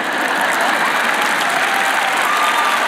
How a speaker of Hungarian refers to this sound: Nem tapsoltok valami hangosan?